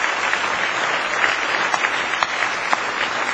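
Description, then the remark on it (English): An audience at a church service claps their hands together in praise of the Lord, in a dense, steady burst of applause, many overlapping claps forming a bright, sustained wash of sound with a few sharper individual claps standing out. “Give Him one more good hand clap of praise if you love Him.”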